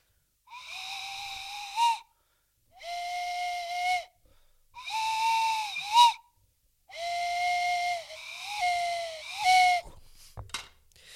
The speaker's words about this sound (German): packte seine Pfeife aus und spielte das Hobbit-Trauerlied.